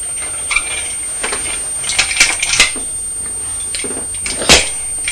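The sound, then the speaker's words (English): Small hard toy parts click and clatter as a toy train is taken to pieces: scattered sharp knocks and rattles, fairly loud, with one sharper clack near the end and no talking. “You're taking the train to pieces.”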